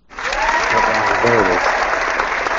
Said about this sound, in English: It's like, am I not getting any applause or anything? Give me time. I don't want the applause to drown you out.